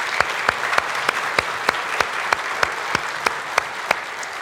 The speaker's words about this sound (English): And so first place team will go on to the next round. So let's give them a wee round of applause.